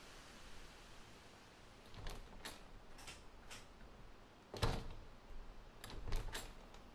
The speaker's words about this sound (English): Close the door behind you and lock the door.